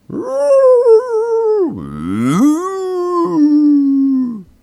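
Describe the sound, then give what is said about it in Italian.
A fox lets out a loud, drawn-out howl, its pitch sagging into a rough, growling dip midway before rising again and trailing off, with no other sounds around it. “Arrivò la sera e con il buio arrivò davvero la volpe.”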